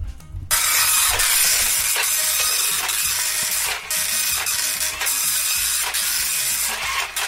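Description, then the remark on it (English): An old, slow printer runs steadily, with a loud, continuous whirring hiss broken by regular mechanical clicks roughly every second as it slowly feeds and prints pages of scores. No one speaks. “Sorry, it's a really slow printer.”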